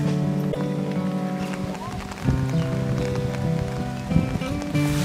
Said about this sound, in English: The rain brings so much along. Two-thirds of India's people depend on the rain for a living.